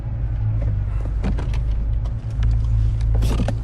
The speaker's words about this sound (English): He reverses past the garage door, then reaches for the handbrake.